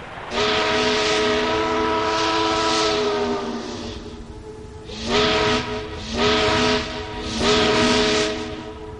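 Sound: steamboat whistle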